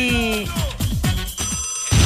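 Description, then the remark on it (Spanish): A telephone rings in quick, warbling electronic bursts with descending chirps, loud, before cutting off into a brief rustle. “¿Quién llama tan temprano?”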